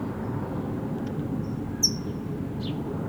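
A single sharp, high chip from a color-banded brown towhee (red, yellow, green bands) cuts through a steady low rumble, followed by a fainter second chip a moment later.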